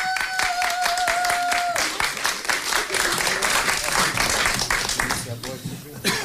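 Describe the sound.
A crowd at the Wattenberger Radiokonzerte rap special breaks into applause as the next artist is called to the stage, dense clapping that carries steadily for several seconds, with a brief sustained tone fading out near the start and some voices mixed into the noise.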